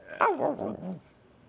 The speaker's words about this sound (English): Can you hear Oxford barking? I can.